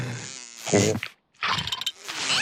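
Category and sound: insect, housefly buzzing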